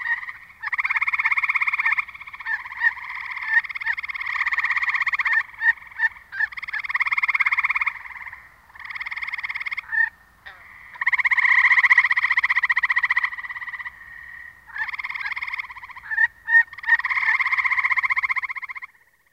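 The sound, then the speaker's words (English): A dense chorus of gray tree frogs trilling loudly and continuously, long pulsed advertisement calls overlapping, with short sharp aggressive chirps breaking in between the steady trills. “In this recording of a chorus of gray tree frogs, listen for aggressive chirps interspersed among normal advertisement calls.”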